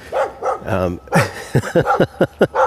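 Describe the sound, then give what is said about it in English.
A dog barks repeatedly, starting with a few spaced yaps and whines, then firing off a rapid series of sharp, loud barks in quick succession. “All right, doggy.”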